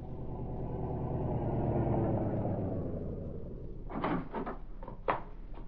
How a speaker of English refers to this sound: A short time later, a car drew up before the entrance.